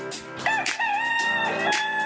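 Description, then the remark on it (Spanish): A rooster crows loudly, one long drawn-out call with a strained, wavering pitch that fills the whole moment, with no voices over it. “El gallo.”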